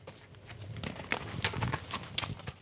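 Horse hooves clip-clop in a quick, uneven rhythm, a string of sharp knocks over a low background rumble, with no voices.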